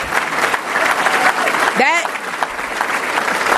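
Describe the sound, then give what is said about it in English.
An audience applauds steadily and loudly throughout after a speaker reports rising student graduation rates, a dense crackle of many hands clapping, with one sharp, rising whoop of a cheer cutting through midway. “But you should clap.”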